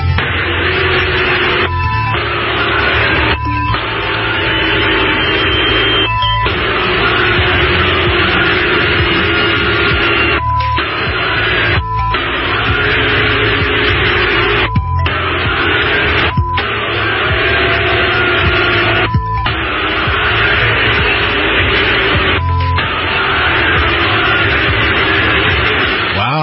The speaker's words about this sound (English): she was booed by a crowd at the Philadelphia Eagles game. Jill Biden took part in the coin toss before the Eagles showdown with the Dallas Cowboys. While she was met with enthusiasm from some, she also had a few critics in the crowd.